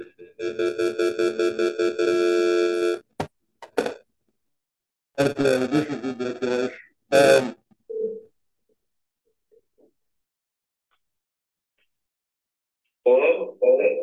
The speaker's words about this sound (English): Please leave a message. At the tone.